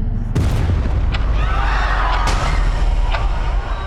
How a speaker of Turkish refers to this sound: Savaş ortamı gibi bir şeydi ya. Ne oldu öyle bir şeyler patladı falan?